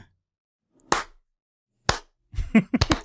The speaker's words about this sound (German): Das machen wir auf der Arbeit immer so, ein kleiner Applaus für und dann klatscht man einmal.